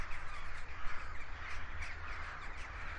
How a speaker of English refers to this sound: Just tons of birds flying out from the woods here. Oh, just the other side of the Boyne. Just in Slane, you know, in the Slane Castle and all that. Wow. It's amazing. I hope you can hear that. Because it's kind of gothic. And weird and autumnal